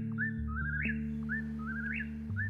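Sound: whippoorwill song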